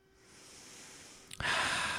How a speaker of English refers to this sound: Damn, this is him breathing heavily to think.